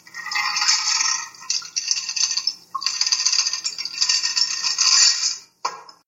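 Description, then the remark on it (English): A martini of gin, vermouth, fruit juice, rum and Benedictine, Franklin Roosevelt's presidential martini, is poured through a hawthorn strainer into a glass: a steady splashing trickle with faint metallic rattling and clinking, broken by a few short pauses and ending with a brief final splash. “Cool liquid through the hawthorn strainer.”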